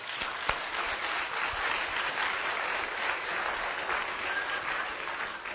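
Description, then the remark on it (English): An audience breaks into steady, sustained applause given to the Lord, a dense wash of many hands clapping at an even level for several seconds with no voices rising above it. “So let's give an applause to the Lord.”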